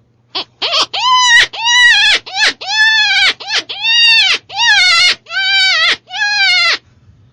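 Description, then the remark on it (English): An open-reed predator critter call with an exposed reed, blown as cottontail rabbit distress: about nine loud, wavering, nasal squalls in rapid succession, with no talking. “That calls a lot like the hyper call that I use for cow. Cottontail?”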